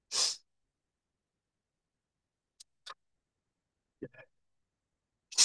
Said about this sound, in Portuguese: Estou muito gripado, pessoal. Peço desculpas a vocês, mas eu estou aqui no meio sacrifício. Estou com a garganta ruim, espirrando. A gripe me pegou forte aqui.